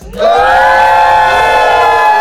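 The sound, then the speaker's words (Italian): A loud crowd at Dinamo Camp roars and cheers all at once on a count of three to close a Radio Dinamo broadcast, a sustained wall of many voices shouting together with a bright, high-pitched edge that holds steady for a couple of seconds. “Concludere come abbiamo iniziato. Con un bel boato.”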